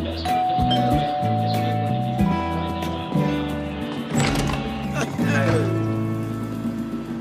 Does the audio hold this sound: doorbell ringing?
yes